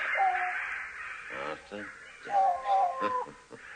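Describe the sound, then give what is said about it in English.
A large bird, the leader of the birds, caws loudly as it arrives to talk, a drawn-out call followed by a few short rasping bursts, then another pair of long harsh caws. “We call him the Wise Old Bird. Ah, and this is him, is it? This is him.”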